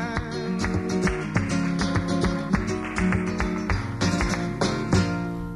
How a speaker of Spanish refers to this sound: Remate final para este tanguillo ligero.